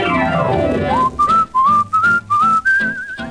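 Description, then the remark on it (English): A clear whistle plays a string of short, gliding notes that climb upward in pitch, imitating breezes whistling through a rip in a kid's torn pants, with a brief musical passage leading in. “When the breezes hit the rip, they go on a whistling through.”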